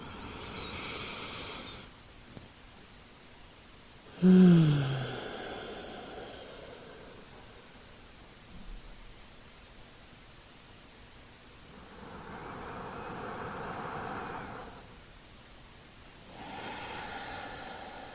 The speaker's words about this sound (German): und nimm dir einfach jetzt diesen Moment, um ein bisschen bewusster zu atmen, den Fokus auf deinen Atem zu lenken, mit mir gemeinsam tief in den Bauch, in den Herzraum, Brustraum zu atmen für 3 Atemzüge.